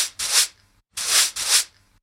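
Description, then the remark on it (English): Three or four brisk, scratchy broom strokes sweep across a hard floor, each a short whooshing rasp separated by brief pauses, with no one talking. “This is a broom.”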